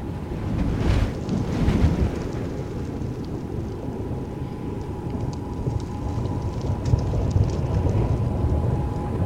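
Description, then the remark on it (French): A continuous, rolling low rumble of artillery shell explosions at Verdun in 1915, swelling slightly in the first seconds and then holding steady and heavy throughout, with no voices. “Les nuages blancs des explosions jaillissaient par vagues au-dessus du sol. Chaque vague était accompagnée d'un grondement roulant et sec, suivi de sifflements qui fendaient l'air, se précipitaient vers le bas et mouraient en frémissant dans l'herbe.”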